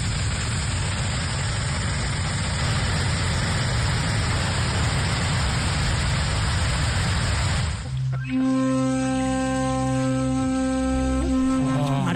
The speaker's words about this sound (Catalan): ha pujat el vídeo a les xarxes socials de l'aigua caient amb força a través d'aquestes comportes del pantà. Escolteu.